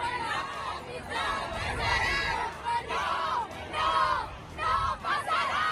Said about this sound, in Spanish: tuvieron que abandonar la manifestación junto a otros miembros de su formación al sufrir agresiones verbales, gritos, insultos.